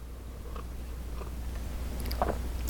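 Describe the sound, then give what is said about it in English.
Quiet mouth noises of someone sipping tea: a few soft slurps and a small swallow spread over a couple of seconds against a low steady hum, with no talking. “Pardon me, I have a sip of my tea.”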